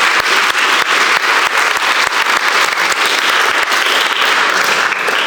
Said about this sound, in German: Die haben einen Applaus verdient, nicht? Total.